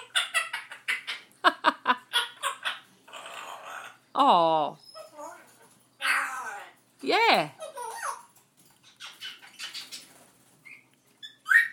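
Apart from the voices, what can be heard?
birds singing outdoors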